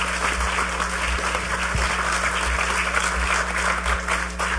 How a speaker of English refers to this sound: Give a big round of applause to the panelists.